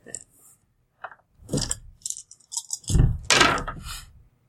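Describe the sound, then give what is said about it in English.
Dice clatter in a scattered run of sharp clicks and rattles, ending in a louder burst of tumbling against a hard surface. “I'd have to minus more dice off.”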